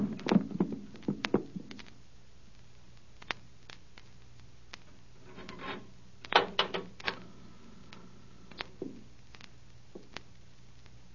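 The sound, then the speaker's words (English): A knife is forced into a wooden cupboard door that has no lock, to hold it shut: a flurry of sharp knocks and scraping clicks, then a cluster of hard wooden thuds midway, with scattered taps trailing off. No voices. “I'll drive something in there. Here, this knife. This'll do it.”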